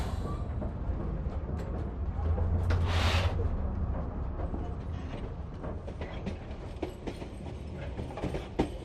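A train rumbles steadily along the tracks, with low continuous clatter and scattered metallic clicks, plus a brief hiss of air around the middle.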